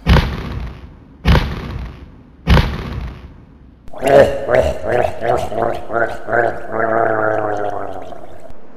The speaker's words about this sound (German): Achtung Leute, das Tor öffnet sich, tretet zurück.